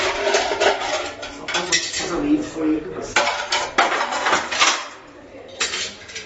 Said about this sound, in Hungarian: Scherer Péter mosogatással kezdi a próbát.